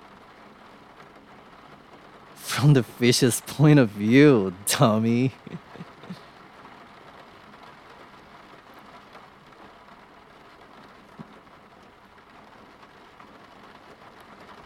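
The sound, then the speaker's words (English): Steady rain pours onto a car windshield in a constant, even hiss that runs the whole time, with a voice speaking briefly near the start before the rain continues alone. “See the rain pouring down the windshield.”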